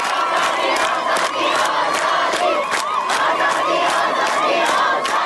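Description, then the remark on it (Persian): A large crowd of students in Najafabad, Isfahan, chants protest slogans in loud unison, many voices rising and falling together over a steady rhythmic pulse of sharp accents that continues throughout. “دانشجویان نجف آباد اصفهان روسری‌ها در باد آزادی را خواندند.”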